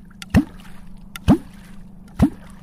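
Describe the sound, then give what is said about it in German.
Three deep, hollow plunks as a wooden catfish clonk stick with a round, blunt end is stamped into the water to push air bubbles and lure catfish, at a steady interval of roughly a second, each a resonant gulping thump with a low rising pitch, fairly loud over a faint watery background. “Und mit dem muss man quasi Luftblasen unter Wasser stampfen. Und dabei entsteht ein Geräusch, das den Waller anlockt.”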